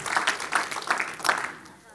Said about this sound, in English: And the church said, in Jesus' name, clap your hands, you may be seated.